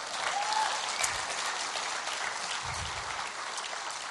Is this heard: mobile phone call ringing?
no